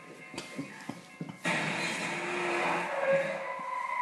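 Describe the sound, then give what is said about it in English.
A few soft knocks, then a car's tires suddenly screech loudly on pavement, a harsh, sustained skid that keeps going for a couple of seconds with a rising squeal near the end. “Watch out for the car!”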